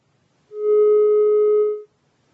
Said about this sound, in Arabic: ما اعرفش التليفون قطع ولا ايه الحكايه.